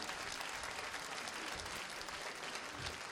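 Sustained applause from an audience for a choir leader and presidents, a dense, steady wash of many hands clapping at even loudness throughout, with no voices standing out.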